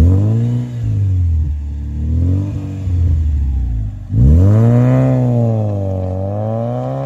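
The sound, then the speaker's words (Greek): The five-cylinder, two-litre engine of a coupe with a six-speed gearbox, rated around 225 to 250 horsepower, revs loudly, its pitch swelling and falling in repeated waves, dipping briefly before surging into a stronger, sustained rev. No one speaks. “Και ειδικά ο πεντακύλινδρος δίλητρος. Νομίζω με 250 ύπους που λέγανε Ferrari του φτωχού.”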